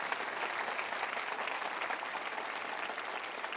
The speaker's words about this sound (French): Pouvez-vous applaudir cette journée que Dieu a créée pour nous?